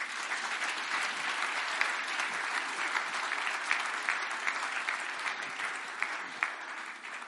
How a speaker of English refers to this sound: Give them a clap. Thank you.